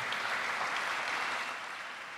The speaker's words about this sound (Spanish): Tercero, ¿listos? Aplausos al equipo, ¿qué?